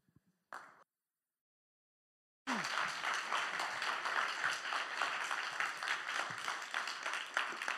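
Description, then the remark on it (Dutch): A short burst of sound, a brief pause of silence, then sustained audience applause for three speakers erupts and continues steadily, many hands clapping in a dense, loud wash. “Applaus!”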